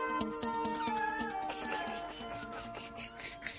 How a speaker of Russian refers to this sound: У бабы Поли новая забота. Котята.